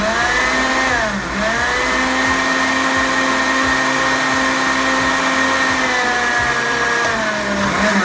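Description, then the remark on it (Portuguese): A blender whirs steadily and loudly for several seconds, its motor pitch sagging briefly near the start and again near the end as it churns a thick fruit shake made with prunes soaked in coconut water. No voices are heard. “Vamos bater? Que shake vai sair daqui, hein?”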